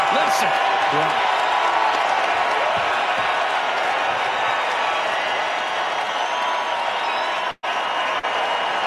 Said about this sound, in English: this is why players love playing in this city. Listen to this crowd.